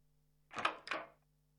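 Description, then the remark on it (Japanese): A room door being opened slowly and quietly by turning the doorknob: two quick rattling clunks of the latch and handle about a third of a second apart, then quiet with a faint low hum in the background. “普段は気にならないドアを開ける音が大きく響いた気がした。”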